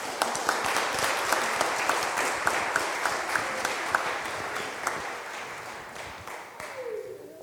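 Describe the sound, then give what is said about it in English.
A crowd claps steadily for several seconds after a telling of the story of Saint Nicholas, a dense patter of many hands with a few sharper claps standing out, gradually thinning and fading toward the end. “Round of applause.”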